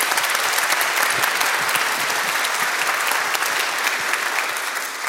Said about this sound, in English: I also wanted to thank, of course, our funders, the London Arts Council, London Community Foundation, and the City of London. Please, a warm round of applause for all of them.